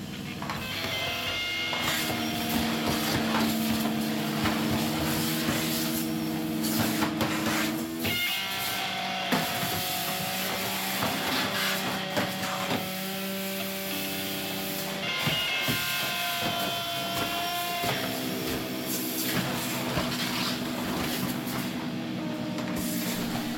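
A vacuum cleaner played as an instrument gives a loud, continuous mechanical drone with whining pitched tones that shift abruptly twice, layered over a steady airy hiss, with no voices.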